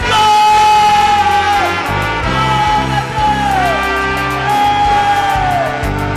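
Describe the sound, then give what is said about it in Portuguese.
A church audience shouts and cheers loudly and continuously in praise of God, voices rising and falling in repeated whooping swells over a dense, sustained roar that fills the whole stretch. “Você tem grito de vitória.”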